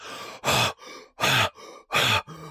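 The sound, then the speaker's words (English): A voice imitates the heavy, ragged breathing of people working out or jogging: three loud, rough gasps alternate with softer breaths in a quick, steady in-out rhythm, panting as if mid-run. “You see people doing this all the time where they're just”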